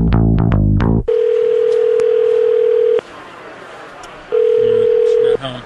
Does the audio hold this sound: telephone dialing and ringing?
yes